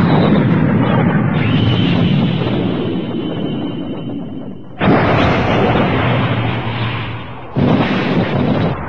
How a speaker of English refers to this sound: Hi, Mega Cannon. Fire!